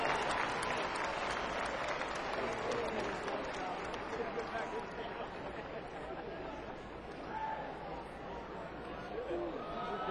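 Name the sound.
audience applause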